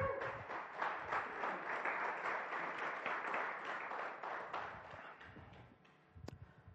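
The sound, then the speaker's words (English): Scattered applause from an audience at Next Level, a steady patter of many hands clapping at a moderate level for several seconds, thinning out toward the end. No one speaks over it. “I'm not sure who started that clapping, but we have a little bit, it's an unwritten rule here at Next Level that when one person claps, don't leave them out there hanging.”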